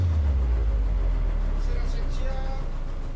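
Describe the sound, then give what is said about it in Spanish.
A passenger launch's motorboat engine rumbles loud, its deep drone dropping slightly in pitch as it eases off and slows to a stop at a rundown jetty of worn wooden planks. “La lancha autobús se detiene en un estropeado embarcadero de maderas gastadas donde el padre Víctor y el turco descienden.”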